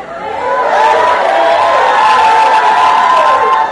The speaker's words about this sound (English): Please, stop shouting.